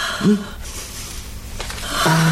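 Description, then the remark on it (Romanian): A strained, wheezing gasp for air, with a short tonal rasp at the start and a longer drawn-in wheeze at the end, fairly loud. “Repede, nu mai pot respira.”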